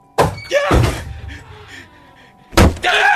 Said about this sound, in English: A black mass crashed in the door, slid on the hardwood, and stopped near the desk.